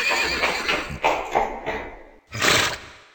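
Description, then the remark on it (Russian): A horse named Veterok trots with a steady, rhythmic clip-clop of hooves, fairly loud, followed by a short burst of whinnying near the end; no one speaks. “Вот, Чевостик, ты только что на себе испытал один из лошадиных аллюров.”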